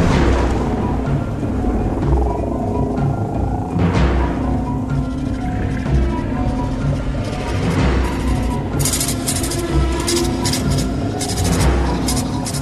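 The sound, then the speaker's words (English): A dense, roaring storm with deep rumbling thunder that swells and cracks several times, steady and loud throughout, with hissing bursts of rain or wind toward the end. “And we're back for the storm.”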